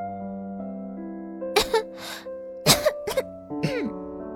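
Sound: coughing fit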